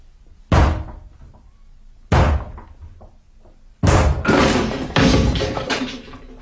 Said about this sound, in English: I'm going to break the door down, or rather we are. Now, I'll take responsibility.